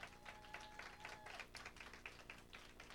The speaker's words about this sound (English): Let's give the Lord another hand clap of praise, please.